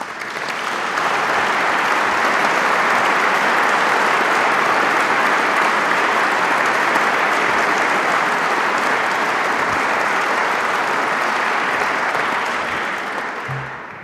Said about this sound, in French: Je demande à ces lauréats de bien vouloir se lever et à vous-même de les applaudir.